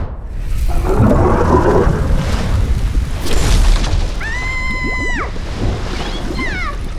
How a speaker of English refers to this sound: What is this? I can make streams of water?